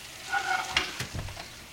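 Chicken sizzles in a hot pan, a steady crackling hiss with brief louder pops and a scrape or stir partway through, all without any talking.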